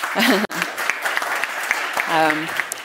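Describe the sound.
Dense, steady applause from an audience at a technology panel discussion, welcoming a panellist from Nokia; a continuous wash of many hands clapping at once. A couple of short voiced calls or cheers rise briefly above the clapping.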